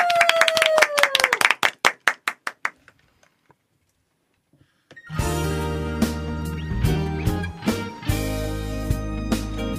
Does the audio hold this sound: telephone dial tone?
no